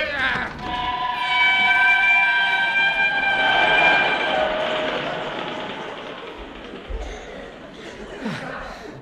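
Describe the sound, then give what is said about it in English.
A train rumbles along the rails on the Yorkshire moors in the pitch dark, with a sustained, high metallic whine over the clatter, then gradually fades as it pulls away. “I was just about to run after the train”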